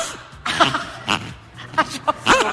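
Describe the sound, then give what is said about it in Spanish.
A squeezed rubber pig toy gives several short, raspy squeaks in irregular bursts, sounding a bit like snoring grunts, with a faint murmur of background noise between them. “Bueno, és un porquet de goma. Semblen ronquidos, eh?”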